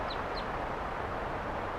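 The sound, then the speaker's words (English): Two quick, high-pitched chirps from wild birds perched right by the microphone next to a car sound close together near the start, then fade into a steady wash of outdoor background noise with no further calls. “And the birds, some of the wild ones came right here and wanted to perch on the microphone.”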